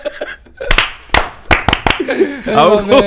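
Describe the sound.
A group in Cagliari gives a rhythmic Cuban-style applause for a girl's 11th birthday: about six sharp, loud hand claps in a short, uneven rhythmic pattern, then voices and laughter take over.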